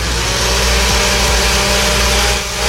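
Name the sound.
electric blender running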